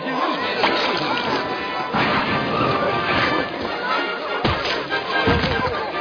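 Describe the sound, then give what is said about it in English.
A loud, sustained clatter and crash of store inventory being knocked over and tumbling down, with repeated thuds and rattling bangs over about six seconds, plus a couple of sharp impacts near the end. “Thank you for knocking over my inventory.”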